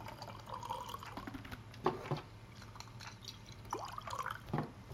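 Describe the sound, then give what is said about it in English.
Jura whiskey trickles into a glass in an office in soft, uneven splashes, with a couple of brief clinks and glugs standing out over a low, steady hum. No one speaks. “And I get to pour it.”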